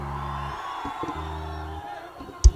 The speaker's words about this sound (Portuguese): Gritos pra ela, por favor.